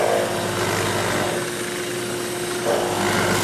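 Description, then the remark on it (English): A steady, loud motorized whine of a drill press boring a giant hole through wood for a wooden truck's window, with a constant hum and grinding texture that eases slightly midway before picking back up; no one speaks. “And then I have to drill this giant hole for the truck's window.”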